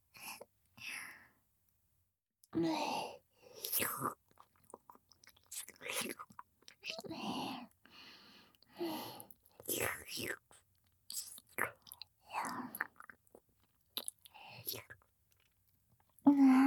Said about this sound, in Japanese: おじさんのお顔も、なめなめしてあげるね。